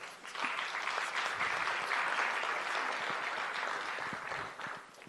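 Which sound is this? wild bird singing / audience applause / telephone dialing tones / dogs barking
audience applause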